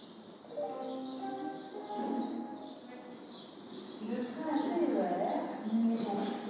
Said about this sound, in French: Et il y avait dehors un grand concert d'oiseaux.